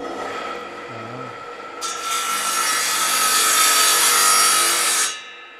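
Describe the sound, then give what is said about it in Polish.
A saw cuts through wood during home tinkering, a loud, steady rasping noise that starts abruptly, runs for about three seconds and then stops, with no one talking. “Tu jest moja piła, źródło natchnień.”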